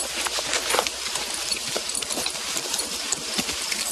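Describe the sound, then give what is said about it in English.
Horse hooves clip-clop at an unhurried walking pace as a man leads his horse into a clearing, a steady series of soft knocks over a constant outdoor hiss, with no voices. “leads his horse into the clearing.”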